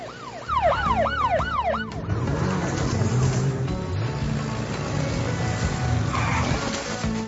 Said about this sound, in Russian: Слушай сирену дрона!